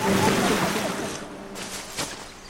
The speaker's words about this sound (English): Water flowing around giant rocks in a river.